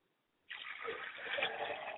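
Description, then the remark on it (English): Water is poured out as a libation onto the ground in a steady splashing stream on a hard surface, starting abruptly after a brief quiet moment and continuing without talk. “I pour libation to the ground so that the water will hit there and take up root”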